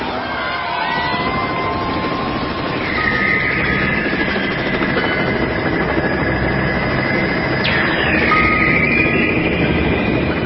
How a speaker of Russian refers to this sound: Вертолет на мгновение зависал над ними, и доносилось слабое постукивание. Потом вертолет летел дальше.